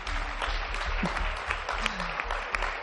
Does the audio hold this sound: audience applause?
yes